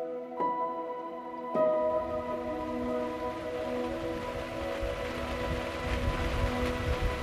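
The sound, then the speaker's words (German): Steady rain, driven by wind, patters and drums on the outside of a dark blue Mercedes-Benz V-Class Marco Polo camper van on the Isle of Skye in a dense, even wash, with a sustained tonal hum beneath it. There is no talking. “Der Wind treibt den Regen vor sich her, drückt ihn gegen die dunkelblaue Flanke des Fahrzeugs”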